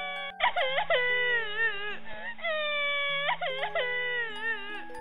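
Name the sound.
child crying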